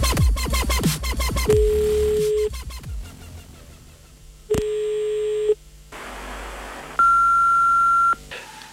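A series of steady electronic beep tones, each about a second long, ending with a higher, louder beep over a hiss of static, the answering machine record tone of Črna luknja, with no one speaking.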